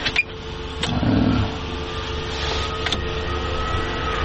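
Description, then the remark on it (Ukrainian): A drone hovers overhead, giving off a steady, even mechanical hum that holds throughout, with a few brief clicks and a short swell of rumble near the start. “вон дрон висить.”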